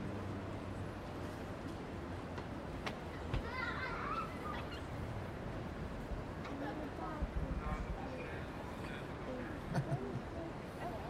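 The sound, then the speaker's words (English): Children's voices shout and chatter over a steady outdoor background hum, with occasional brighter calls rising above the general bustle, as kids play in the street. “There's kids playing in the street.”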